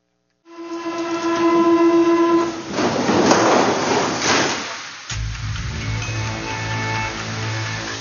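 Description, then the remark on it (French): A metro train at a station where guide dogs are trained to accompany blind people: a sustained tonal horn-like whine, then a loud rushing roar, settling into a steady low rumbling hum, with no voices. “Et on va regarder un petit extrait d'une vidéo, justement, qui montre comment les chiens sont formés dans le métro pour accompagner les gens dans le métro.”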